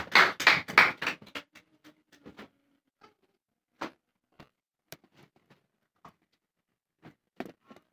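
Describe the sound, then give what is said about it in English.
A burst of many hands clapping together as a hand clap of praise to the Lord, loud and dense for about a second, then thinning into scattered single claps spaced irregularly over the next several seconds. “Now come up and give the Lord a hand clap of praise.”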